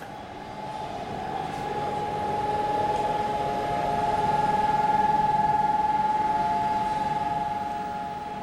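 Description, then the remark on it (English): An air-raid siren holds one steady, unwavering tone across Tel Aviv, Israel, sounding to mark Holocaust Memorial Day, swelling slightly in volume over a low background rumble of traffic and wind. No one speaks. “Sirens sound out across Tel Aviv and the whole of the country to mark Holocaust Memorial Day, when Israel remembers those lost in the catastrophe that very much led to its founding in 1948.”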